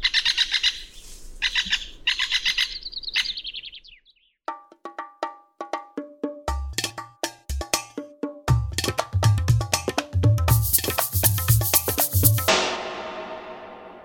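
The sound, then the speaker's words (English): A great spotted woodpecker gives a rapid series of sharp, loud 'kik' notes, repeated irregularly, after a brief burst of higher twittering bird calls at the start. “And here's a call from a great spotted woodpecker.”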